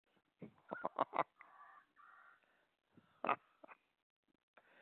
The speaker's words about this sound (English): you can make money with that buzzard. You know, $100 a chirp.